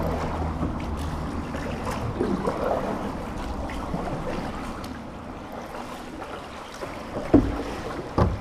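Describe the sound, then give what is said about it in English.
A boat drifts on the swollen Camlann River, water lapping softly around the hull amid a steady low rumble of moving water and breeze, with an occasional gentle knock near the end. “From my view, we're just floating along the Camlann River and it is bulging and it is absolutely beautiful.”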